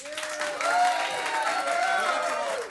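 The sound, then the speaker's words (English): A live audience claps steadily for a few seconds, a dense wash of applause with a few voices whooping and cheering over it, loud throughout. “Just to test where the audience is at, for my squeaky pig.”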